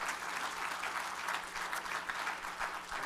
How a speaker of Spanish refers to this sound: ¿Cuántos dicen amén a eso? Denle un fuerte aplauso, hermano, está bien.